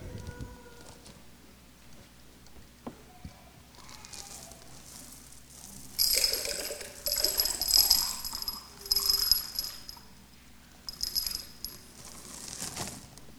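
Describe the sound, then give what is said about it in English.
Pebbles pour from a bag into water to raise the water level, in bursts, a bright clattering, splashing rush that comes in several loud waves with brief pauses between them. Nobody speaks. “We got lots of pebbles in a bag here.”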